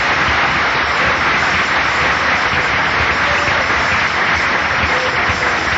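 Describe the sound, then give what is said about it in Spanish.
An audience applauds Christ steadily, a dense, continuous wash of many hands clapping at an even loudness for several seconds, with no voices standing out. “Den un aplauso a ese Cristo maravilloso.”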